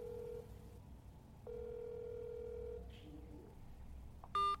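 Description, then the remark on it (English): Two long, steady ringback tones purr through a phone line with a pause between, unanswered, followed by a short high electronic beep at the end over faint background hiss. “Come on, come on, pick up the phone.”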